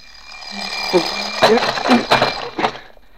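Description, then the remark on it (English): An alarm clock rings continuously with a steady, shrill, loud tone, waking a man from a dream, while brief voice-like bursts and rustling break in over it. “The alarm clock broke it up just when it was getting good.”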